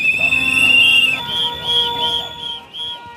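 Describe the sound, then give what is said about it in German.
Shrill, piercing trill-whistle blasts sound together as hundreds of protesting students stream in. A loud sustained trilling tone comes first, then shorter overlapping bursts, with a faint crowd murmur underneath. “Viele haben Trillerpfeifen dabei.”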